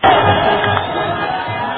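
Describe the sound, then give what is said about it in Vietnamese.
A dense street crowd in Barcelona, tens of thousands of people, roars and cheers continuously, celebrating FC Barcelona's win in the European Champion Clubs' Cup final: a loud, steady wash of many voices with faint shouts rising out of the din, amid car horns. “Barcelona đã có một đêm không ngủ cùng với niềm vui tràn ngập trong tiếng reo hò còi xe.”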